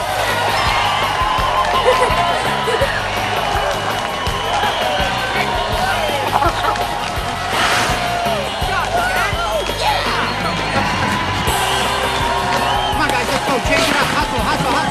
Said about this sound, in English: Jack scores. The syndicate and crowd celebrate.